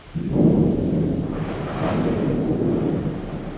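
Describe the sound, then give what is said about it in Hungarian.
A thunderstorm: deep, rolling thunder rumbles steadily for several seconds, swelling briefly in the middle, with a soft hiss of falling rain underneath and no voices. “Mindjárt eláll az eső.”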